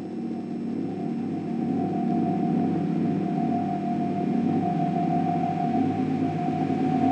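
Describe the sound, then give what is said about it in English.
The menacing sound effect of the atomic-powered submarine Nautilus in 20,000 Leagues Under the Sea, made by combining a soldering iron, a ball-peen hammer and a demagnetizer with the hum of a cymbal: a steady, droning metallic hum with a sustained mid-pitched tone over low rumbling layers, continuous for about seven seconds, no voices. “By combining the strange sounds of a soldering iron, a ball-peen hammer and a demagnetizer, with the hum of a cymbal, he cooked up the menacing sound of the atomic-powered submarine, the Nautilus, in 20,000 Leagues Under the Sea.”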